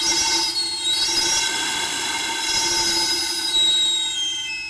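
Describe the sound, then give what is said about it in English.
A shrill, steady steam whistle from a steam-powered street vendor's cart selling steam-cooked plantains and yams blows continuously for about five seconds to announce the vendor is on the way. It is loud and piercing, with layered high-pitched tones and a hissing edge. “This cart works with steam. I'm going to make the sound for you.”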